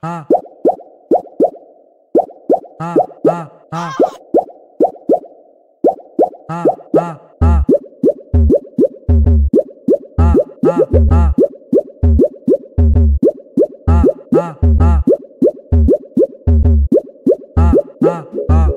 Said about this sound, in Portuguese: Olha o barulho da, olha o barulho da, olha o barulho da água.